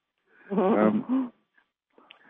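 A caller's dog barks over a phone line: one drawn-out, tonal bark followed quickly by a shorter one, thin and mid-loud, then faint rustling noise.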